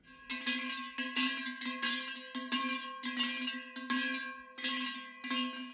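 A sheet-metal bell (Schelle) rattles and clanks repeatedly, about ten rough, tinny strikes in an uneven rhythm, fairly loud, with a buzzing metallic ring between hits and no voices.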